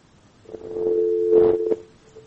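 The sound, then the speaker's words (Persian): A steady electronic telephone tone hums for about a second and a half after a faint click, as a listener's call to a live call-in program is cut off, then stops abruptly, with some muffled line noise around it. “بله، خب تلفنشان قطع شد.”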